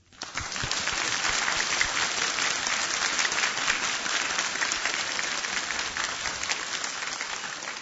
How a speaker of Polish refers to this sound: Życzymy zdrowia i raz jeszcze nasze oklaski niech będą wyrazem naszej miłości i naszej przyjaźni wobec Ciebie.